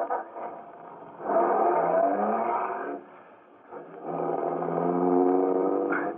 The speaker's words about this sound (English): I looked again at the limousine, an official car of the MVD. Trying to be as casual as possible, I went over and looked in. The ignition keys were there. I got in quickly and stepped on the starter.